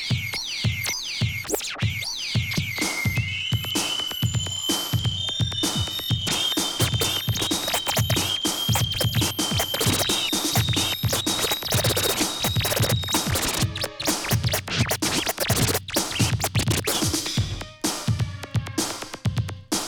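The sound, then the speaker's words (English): DJ record scratching over a pounding beat, with rapid chirping, pitch-swooping scratches that squeak high like a bird, repeated in quick rhythmic bursts and loud throughout. “It chirp like a bird. Did he make it chirp like a bird?”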